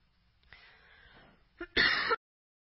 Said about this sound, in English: Excuse me, got this cough, bear with me.